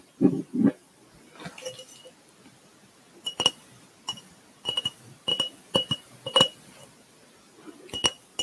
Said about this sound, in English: I personally love glass tapping sounds, even not in an ASMR video or episode on Anchor.